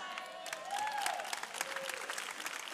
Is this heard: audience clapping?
yes